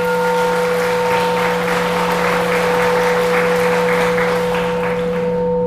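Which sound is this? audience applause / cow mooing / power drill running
audience applause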